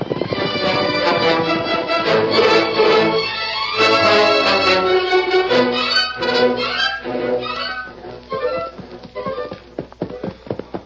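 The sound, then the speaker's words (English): A horse, Silver, whinnies amid a dense, continuous wash of sound, then galloping hooves pound in a quick, steady rhythm toward the end as riders mount up to follow a trail. The sound is loud throughout, with no talking. “Mount your horse, Kemosabe.”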